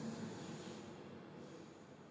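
A train rumbles past in a steady, broad wash of noise, fairly faint and easing slightly toward the end, with no voices over it.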